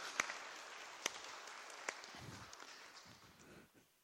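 An audience applauds a preacher after an Easter Day sermon, a dense, steady wash of many hands clapping, a few sharp louder claps standing out early on, before the applause thins and fades away near the end.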